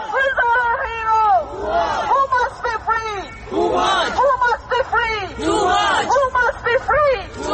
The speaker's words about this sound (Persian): در لاهه هلند معترضان با فریاد زدن نام توماج خواستار آزادی او شدند